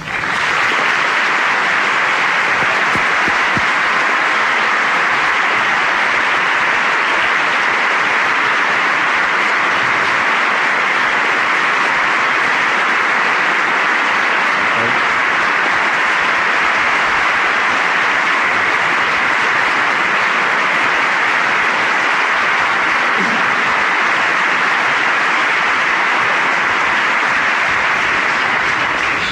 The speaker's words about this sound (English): I have asked and they have agreed to remain silent for the next 90 minutes, except for right now, when they will applaud as we welcome the two candidates, Governor Bush and Vice President Gore.